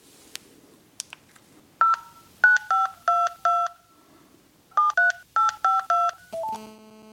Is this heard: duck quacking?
no